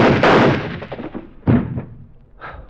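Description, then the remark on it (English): A loud, booming gunshot rings out and fades in a long rumbling tail, followed by a second sharp shot and then a fainter third pop, with no voices. “You really have got everything, haven't you? Even your own gun.”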